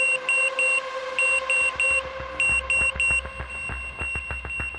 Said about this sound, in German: Also ein Notfallsystem, das Alarm schlägt, wenn zwei Züge aufeinander zurasen. So laut, dass man es nicht überhören kann.